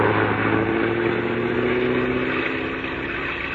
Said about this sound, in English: Stand back, honey. The bus is coming by. Might splash mud on us. He's coming awfully fast for a wet night.